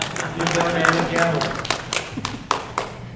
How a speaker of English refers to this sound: Not often do the timekeepers get applause.